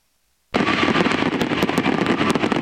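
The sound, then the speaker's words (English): After a moment of silence, a dense, loud barrage of fireworks erupts at the Paris 2024 Olympics closing ceremony in Paris's national stadium, with rapid crackling bursts and sharp pops layered over a continuous roar, like a large outdoor display. “The Paris Olympics went out with a bang as fireworks engulfed Paris's national stadium.”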